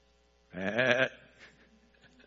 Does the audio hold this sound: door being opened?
no